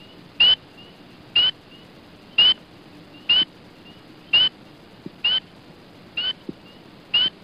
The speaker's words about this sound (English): Spring peeper.